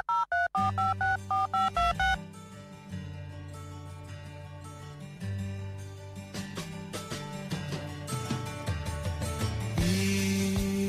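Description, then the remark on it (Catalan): A quick run of loud, short electronic beeps at shifting pitches, like an answering machine tone, cuts off after about two seconds as full band music with steady bass takes over. “missatge després del senyal.”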